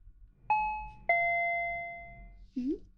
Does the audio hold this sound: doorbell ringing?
yes